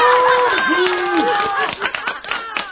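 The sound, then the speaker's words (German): A crowd applauds a brave guest of honour with a burst of clapping, mixed with cheering voices and chatter. The claps grow sharper and more distinct toward the end. “Beifall für den mutigen Ehrengast.”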